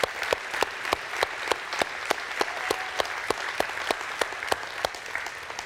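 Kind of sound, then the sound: crowd, audience applauding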